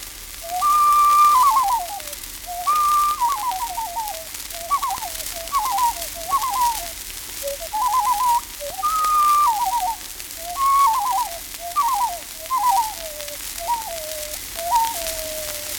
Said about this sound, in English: The tremulous, hysterical, sobbing call of the loon can only be heard at its best from over the lake on a moonlight night.